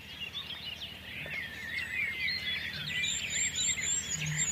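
A dense dawn chorus with a wren behind, blackbirds in the foreground and reed warblers farther off, with overlapping high chirps, trills and warbling phrases running continuously at a fairly quiet, steady level, plus a thin sustained high whistle near the end.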